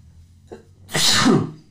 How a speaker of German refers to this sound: Ich glaube, ich muss niesen.